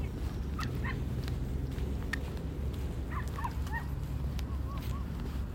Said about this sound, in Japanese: めっちゃ犬吠えてる。